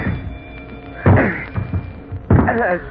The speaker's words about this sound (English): Oh, I'm going to be able to open this door. But it's the only way out of here. It's jammed. Maybe I can break it down.